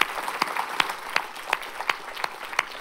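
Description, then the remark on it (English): Audience applause for the worship team: a dense, steady patter of many hands clapping, with sharper, louder claps standing out at a regular rhythm throughout. Moderately loud, with no voices. “give the worship team an applause that they deserve.”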